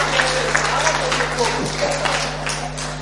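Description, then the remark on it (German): A crowd of people claps steadily for about three seconds, a dense crackle of many hands, with a few voices mixed in beneath the applause and a low hum underneath. “Sehr gut, Applaus, gut gemacht.”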